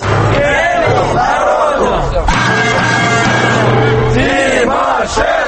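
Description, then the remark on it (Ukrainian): A large crowd of Crimean Tatar protesters chants a slogan in loud, rhythmic unison outside the Cabinet of Ministers building in Kyiv, repeated every 15 minutes; the massed voices rise and fall in repeated shouted phrases with a steady low hum beneath. “Це гасло звучить під будинком Кабінету міністрів що 15 хвилин.”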